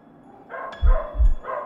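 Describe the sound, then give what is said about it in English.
A dog barks twice in quick succession, each bark deep and booming with a heavy low-pitched thump, over a faint background murmur. No one speaks. “Or is that dog way too big to be a dog?”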